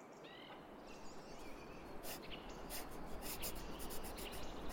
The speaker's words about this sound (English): Hear that? The birds? Ain't it nice? Yeah. They always get less scary in the winter.